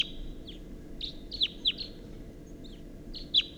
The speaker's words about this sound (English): there's some wild birds here. It's 6:14 a.m. and there's at least a pair, and they're calling from the oak tree, and there's one in the oak tree, and that's a wild bird.